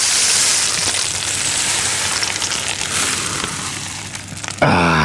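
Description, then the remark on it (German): A rainstick, not an original South American one, pours out a steady, dense rustling patter like falling rain in a studio for about four and a half seconds, fairly loud, before a brief tonal sound cuts in at the end. “Elf hat Regen gemacht hier im Studio. Wie hast du denn das jetzt hingekriegt? Ich habe einen Rainstick mitgebracht”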